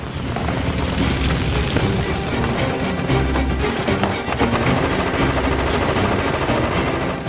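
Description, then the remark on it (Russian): Soldiers on the banks of a ravine fire dense, continuous machine gun fire down on a column while rebels shoot back, loud and unbroken for several seconds, with rapid overlapping bursts and heavy low booms rolling underneath; no voices are heard. “По колонне сверху, с берегов оврага, солдаты ведут плотный пулеметный огонь.”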